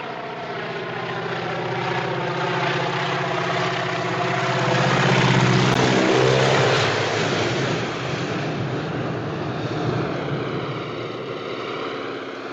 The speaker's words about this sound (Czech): On jako dokázal pracovat s tou dramatizací tak, že jako vlastně najednou to jako uticho a slyšíme tam jenom nálety toho letadla. Tam, ano, je tam prostě jenom zvuk toho letadla.